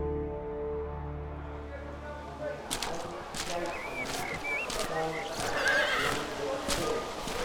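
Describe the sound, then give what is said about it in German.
A low car engine hum cuts off as it parks behind the stables at a racetrack, then horses whinny and snort while hooves clop irregularly on a hard surface, with stable bustle in the background. “Ich fuhr hinaus, parkte hinter den Ställen und ging zum Clubhaus.”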